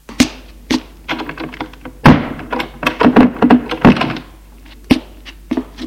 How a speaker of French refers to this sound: Elle ferme la porte.